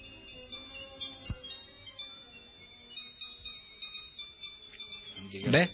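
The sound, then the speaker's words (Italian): A small watch's built-in alarm rings with a bright, high-pitched repeating melody of tinkling tones, steady for several seconds, ending with a brief clatter. “Oggi ho un mio orologino con la sveglia incorporata, quello con i quarti, tutto quanto, che mi serve per fare un nuovo slogan.”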